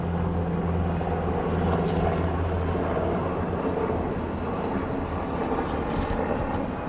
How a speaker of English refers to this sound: I'm going to wait for the plane to go over.